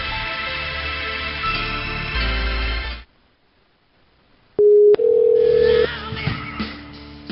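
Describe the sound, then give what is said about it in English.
Music stops for a pause, then a loud, steady telephone dial tone sounds on a red back line, broken by a sharp click and a second tone as dialing begins, before background sounds return. “Let's give him a call on the old, the old back line over here, the red line.”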